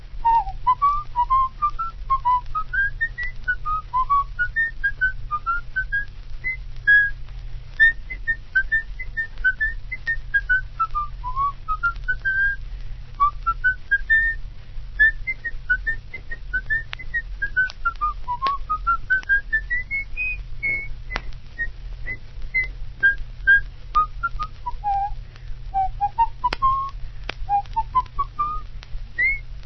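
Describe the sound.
A single person whistles a lilting folk melody for about half a minute, the notes rising and falling in steady phrases over a constant low hum, with no talking.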